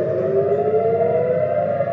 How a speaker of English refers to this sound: Air raid sirens wailed across the country, and then we heard loud booms, and the night sky lit up with orbs of light, many of which exploded into smoke.